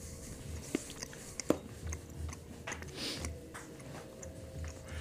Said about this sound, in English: But I can always hear myself chew because it's my chewing I'm doing.